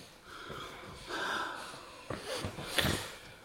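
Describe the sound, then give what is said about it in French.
Noisy breathing with wheezy inhales and a few sharp snorting sniffs, irregular over a few seconds, with no talking, from a man sniffing ether. “Dites donc, mademoiselle Michonneau, il renifle à l'éther.”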